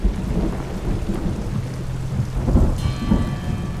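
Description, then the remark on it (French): The daily heavy afternoon rain pours down at 4 p.m. on a mountain in a dense, continuous hiss, with a low rumbling undertone like thunder rolling beneath the downpour. No voices. “Il est 16 heures, c'est l'heure de la verse quotidienne.”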